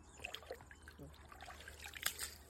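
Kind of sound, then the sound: nature, water poured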